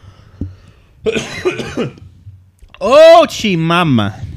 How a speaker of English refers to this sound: Sorry about the coughing, guys. Last time I was here, I got sick.